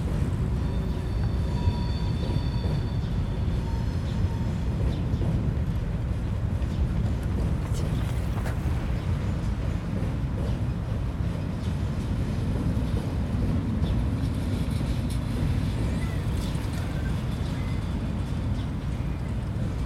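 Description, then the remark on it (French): A steady, continuous rumble of heavy car traffic from a motorway-like road right next to the spot, loud and close, with a faint high whine drifting in and out. “ici, on entend le bruit de la route, enfin je sais pas si on l'entendra au micro, mais le bruit de l'espèce d'autoroute à côté, le bruit des voitures en permanence, et c'est vrai que ça peut être un peu embêtant, ouais.”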